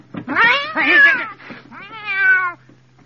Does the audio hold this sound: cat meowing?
yes